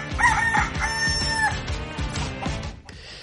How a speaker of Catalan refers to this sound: M'ho queda algun minutet per sentir el nostre gall.